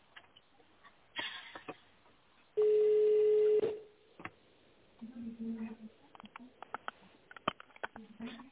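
A single loud telephone touch-tone (DTMF) keypad tone rings out for about a second as an extension is dialed in tone mode after an automated office greeting, followed by scattered clicks and handling noises, with faint muffled voices over a thin phone line.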